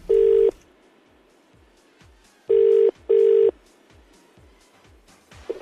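A telephone ringing tone heard down the line during an outgoing call: a clear burst, then a pause, then a double ring, over faint line hiss with no voices.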